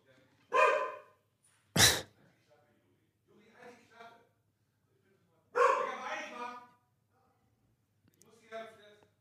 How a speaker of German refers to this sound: Der Hund ist wahnsinnig aufgeregt.